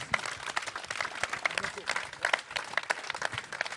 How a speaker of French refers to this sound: Voilà, on peut applaudir François Morel qui va. Voilà.